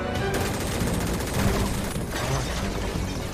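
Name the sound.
volley of gunfire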